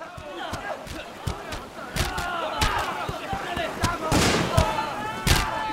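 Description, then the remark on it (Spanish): Dozens of indigenous people shout and yell over one another in a loud, continuous clamour as they come toward Captain Elcano's ship, punctuated by repeated sharp bangs at irregular intervals. “¿Qué son esos gritos?”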